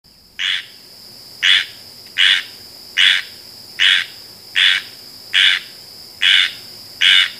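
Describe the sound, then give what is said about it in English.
A squirrel tree frog calls in a steady series of nine short, raspy, buzzy notes resembling a squirrel's scolding, evenly spaced about once every second, clear over a faint constant insect hum. “The call of this frog is very much like the scolding sound that a squirrel makes when it sees a blue jay or is on the attack.”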